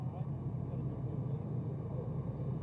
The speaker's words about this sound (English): The motorcade approaching the plane now. The Pope's visit to the United States and the United Nations almost over.